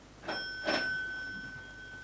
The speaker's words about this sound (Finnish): Se on tämä ovi. Kummallisen hiljaista tässä talossa. Soitetaan kelloa.